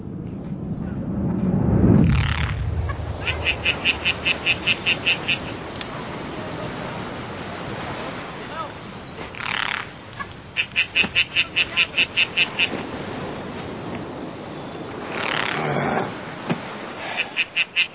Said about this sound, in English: Hey. Hey, you hear that thing? You hear that frog? That frog?